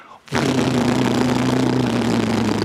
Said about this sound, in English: It's the Coast Guard plane. And it circles overhead and he waves and they wave and he feels that elation